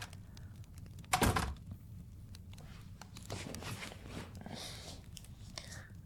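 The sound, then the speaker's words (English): A door opens with a single solid thunk, followed by soft, shuffling movement as someone steps in, with faint murmuring in the background. “Yeah, the door is not locked. You can come in.”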